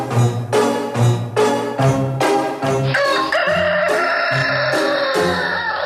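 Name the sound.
rooster crowing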